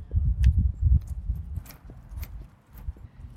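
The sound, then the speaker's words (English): Steady footsteps walking outdoors on the Disney studio lot, a regular rhythm of soft thuds with sharper scuffs, moderately loud, with faint background ambience and no talking. “We'll start walking.”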